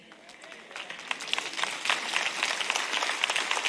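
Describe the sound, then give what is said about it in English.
A thin, scattered round of audience applause, soft and sparse at first and building slightly, with many light overlapping claps and no voices over it. “That was a pretty puny clap.”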